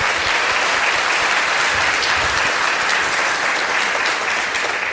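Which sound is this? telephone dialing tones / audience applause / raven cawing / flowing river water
audience applause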